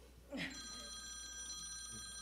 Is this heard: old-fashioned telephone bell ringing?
yes